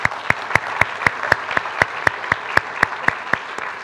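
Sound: audience applause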